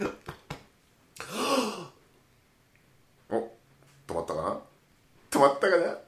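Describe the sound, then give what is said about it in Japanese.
A run of abrupt, gulping hiccups spaced out by short silences, a few quick clicks at first, then louder throaty jolts, one drawn out into a brief groan. “はい、そういうことでシャックリも止まったということで。 止まってねえや。もうシャックリ。”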